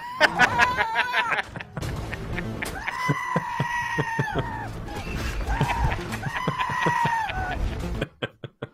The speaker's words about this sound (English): Okay, so I know how much you love the Death Note movie. This is the Scream replaced with goat screams.